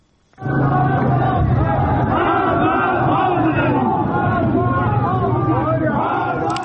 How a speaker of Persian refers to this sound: تصاویری که در شبکه‌های اجتماعی منتشر شده گروهی از معترضان را نشان می‌دهد که شامگاه شنبه در مشهد شعارهایی از جمله مرگ بر دیکتاتور سر می‌دهند.